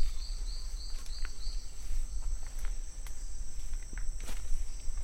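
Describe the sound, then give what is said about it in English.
Irregular footsteps of a hike crunch through leaf litter on a trail in lowland tropical forest in Costa Rica, set against a steady, high-pitched chorus of crickets and insects. Low rumble throughout, no voices. “the wonderful background noise of hiking in this lowland tropical forest”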